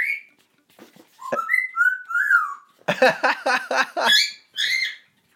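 Lily, a pet bird, whistles a few clear, sliding cockatiel notes, then breaks into a rapid run of harsh, buzzy chirps before ending on two more bright whistles. No one speaks.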